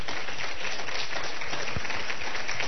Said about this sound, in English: Any managers in the room, please stand up. Give the managers a round of applause.